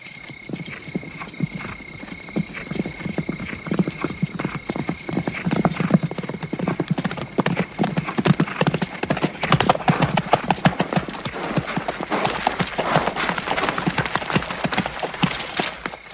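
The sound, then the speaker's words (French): A dense, continuous clatter of the hooves of hundreds of horses of a large army, the rapid overlapping beats growing slightly louder and busier as the army approaches, with a faint whinny in the mix. “C'est une armée immense. 3000 hommes. Des centaines de chevaux.”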